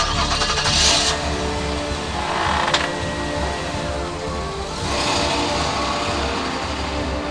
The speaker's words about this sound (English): He drove up the makeshift ramp we made to street level, and I didn't see him again until the early hours of the next morning.